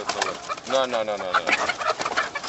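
A dense chorus of about 9,000 caged hens, stacked in six rows of cages along a narrow aisle about 100 yards long, clucking and squawking at once, a continuous overlapping din with no clear pauses.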